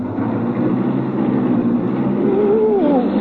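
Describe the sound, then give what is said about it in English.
A car engine roars steadily as the car is driven at about 50 miles an hour, its droning pitch climbing as it accelerates near the end, with no one speaking. “We're going 50 miles an hour, and I haven't shifted into high yet.”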